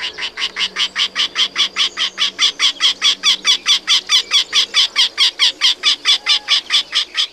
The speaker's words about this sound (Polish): To jest krętogłów, to jest jedyny dzięcioł, który odlatuje, który migruje.